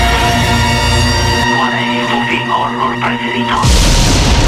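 Voices scream in long, wavering high-pitched wails between loud bursts of harsh, roaring noise that open and close the short, intense sequence, recorded for the Radio Horror Channel Show radio program.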